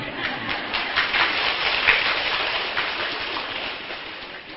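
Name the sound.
rain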